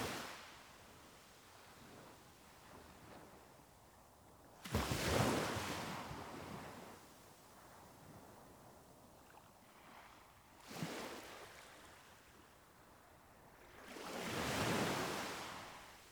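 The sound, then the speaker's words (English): Ocean waves roll in and break in three broad, hissing surges, with a quieter wash of water and light wind filling the gaps between them. No one speaks. “Floating between the blue and green seas, you sense a subtle shift in the current.”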